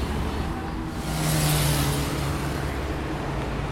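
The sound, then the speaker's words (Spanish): Dense road traffic rumbles steadily, reaching 77 to 78 decibels, with a loud vehicle swelling past midway through a constant wash of engine noise and tire hiss on a busy street. “Tránsito de nuevo que llega a 77, 78 decibeles.”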